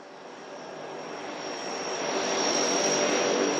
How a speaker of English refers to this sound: It's a sunny, warm morning at the Boise Airport. A shiny white and green plane slowly pulls onto the retardant-stained tarmac.